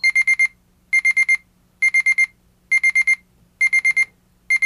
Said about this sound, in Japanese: このようにですね、セットしております時刻になりますとアラームが鳴ります。正面のトークボタンを押しますとアラーム音が止まります。ただしこのままで置いておきますと5分経ちますと再びアラームが鳴り出します。